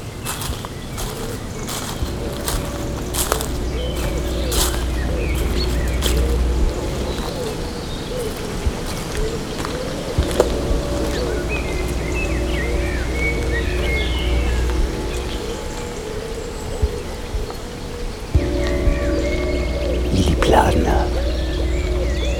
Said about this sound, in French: Oiseaux, un léger cours d'eau. La Bretagne, les habitants magiques de la forêt.